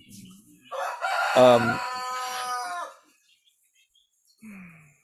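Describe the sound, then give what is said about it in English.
A rooster crows once, loud, its drawn-out harmonic call lasting about two seconds, with softer bird sounds just before and a brief faint call trailing after a pause. “I'm sure in the new ashram they're going to have a bird sanctuary. And a dog sanctuary. That's soundproof.”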